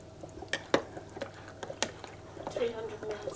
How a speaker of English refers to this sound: I'm making soup. Here we go. And that's it. And I've got a nice cup of hot soup, which I just have to stir. And no burnt fingers.